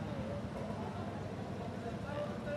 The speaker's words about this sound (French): est-ce qu'on entend ce qui se passe autour de la table ou est-ce qu'on laisse passer la ribambelle de tracteurs, là ?